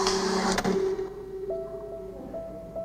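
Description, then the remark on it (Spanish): A braille printer in a library runs with a loud mechanical clatter at first, then settles into steady whirring and humming tones that step in pitch, with no voices. “Una impresora braille.”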